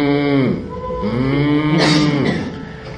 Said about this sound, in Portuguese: Se você for deixar ele em modo vaca é aquele que quando você deixa ele na mesa, ele fica andando e mugindo, né?